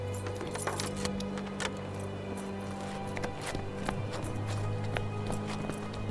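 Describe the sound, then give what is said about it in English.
Keys jingle and clink as they are set down, a scatter of sharp metallic taps over a steady low engine-like hum, with no one speaking. “Look, I'll leave the keys here.”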